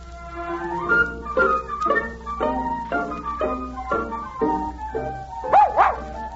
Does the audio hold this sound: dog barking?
yes